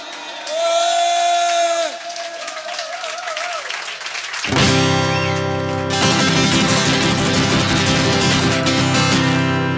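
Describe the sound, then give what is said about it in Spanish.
Audience applause for two blonde women bursts in about halfway through, a dense, loud wash of clapping with cheering that carries on to the end, preceded by scattered tonal whoops and voices. “Dos rubias estupendas, un aplauso.”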